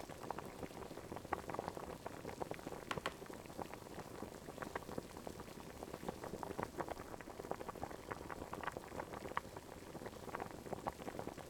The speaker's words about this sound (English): I'll be here cooking. The broth is boiling.